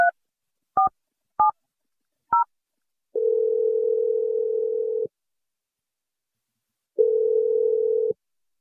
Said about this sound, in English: But we're going to dial your fiance